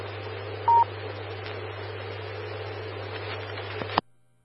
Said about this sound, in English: I'll get on the landline and give them a call.